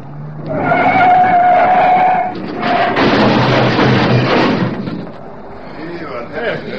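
car crash sound effect

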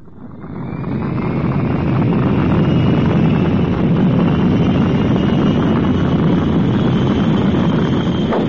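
aircraft engine roaring

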